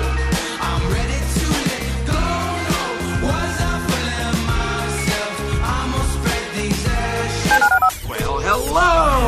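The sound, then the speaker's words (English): Telephone keypad tones beep in steady succession, woven into a loud, full musical backing with heavy bass. No one speaks, and the tones continue through the whole stretch. “Dial the phone.”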